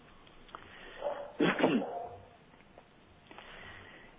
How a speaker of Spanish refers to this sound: sí, no, perdóname, estaba ladrando el perro.